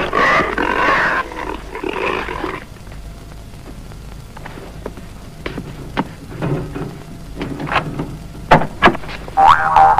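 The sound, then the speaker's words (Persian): Cartoonish pig grunts and squeals come in bursts, loud at the start and again near the end, with springy, bouncy sound effects and scattered clatter in between. No one speaks. “اول اون خوکو بده به من.”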